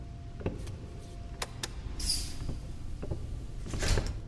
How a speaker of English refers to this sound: I'll shut the door.